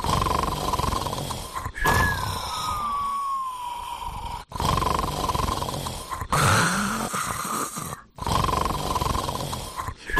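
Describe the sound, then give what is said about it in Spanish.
A man snores loudly and roughly in long back-to-back cycles with only brief breaks between, a deep buzzing drone that sounds almost like a revving motorcycle, recorded by his wife. “existe un ronquido que llaman roncar a lo moto, y si no escucha...”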